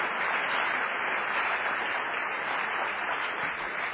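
An audience applauds steadily for the whole stretch, a dense, even wash of many hands clapping at a constant loudness, with no voices on top.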